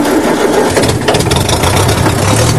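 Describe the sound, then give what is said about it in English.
A heavy old tractor engine cranks and catches, settling into a loud, rough, low rumble, with clattering mechanical noise over the top. No voices. “That tractor's worth checking out. It should have a low-revving, high-torque engine, ideal for pushing paddles.”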